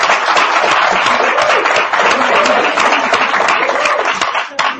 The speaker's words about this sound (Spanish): Ah, un aplauso.